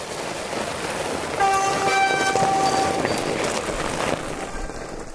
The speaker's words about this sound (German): Und jetzt wird es langsam ruhig im Gebirge und gleich nähert sich ein Rudel Fatbikes.